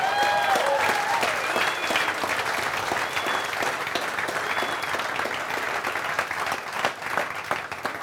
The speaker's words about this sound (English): Just like y'all applauded, they applaud.